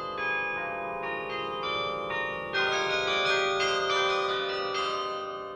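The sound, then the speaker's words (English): A carillon of 47 bells, played from a mechanical keyboard, rings out in a sequence of overlapping tuned strikes, their long shimmering tones blending into a sustained, resonant wash that swells partway through; no voices are heard. “Our instrument here is 47 bells, so this is a fairly big instrument.”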